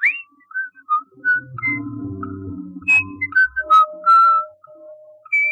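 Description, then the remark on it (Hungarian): A person whistles a lively bird-song imitation: quick, high chirps and short trills, then longer sustained warbling notes, moderately loud over a low hum and faint clinks. “Uram, fölléphet a fügyművésznek. Vidéki gyerek vagyok, a madaraktól tanultam.”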